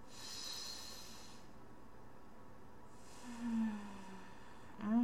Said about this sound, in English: Breathe with me, okay? A nice, deep, deep sniff from Mommy.